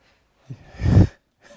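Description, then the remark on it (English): An audience member at a pastor's sermon lets out a single drawn-out yawn, a breathy swell that builds and then fades, with a short soft breath afterward and no talking. “Everybody shows up late and then they yawn in the back.”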